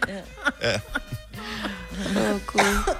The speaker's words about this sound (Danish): Jamen, jeg vil bare lige sige, du hoster lidt. Ja, nej, det var bare lige sådan lidt, fordi jeg grinede helt ned i maven.